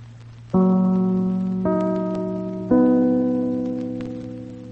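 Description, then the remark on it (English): The NBC radio network chimes, played before the second half of the Magic Key radio program: three clear, bell-like tones struck about a second apart, each ringing out and slowly fading, over a steady low hum with no voices. “before we continue with the second half of the Magic Key program, we pause for the familiar NBC chimes, your signal for fine radio entertainment.”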